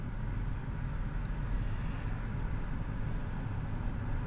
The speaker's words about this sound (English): Hang on, I'm rolling up my window because we have too much traffic noise. Let me roll down the other window so I don't fucking suffocate.